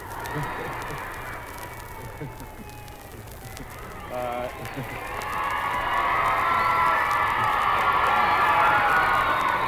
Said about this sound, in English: You heard the tremendous applause that went up when the President